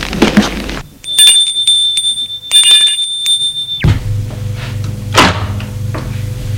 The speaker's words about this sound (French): Il va sonner à sa porte.